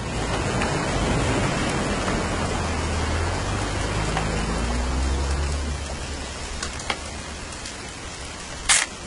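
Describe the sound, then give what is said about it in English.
Steady rain falls during a weekend hunting trip, hissing continuously over a low rumble, with a couple of sharper taps near the end and no voices. “It's going to rain the whole weekend, isn't it?”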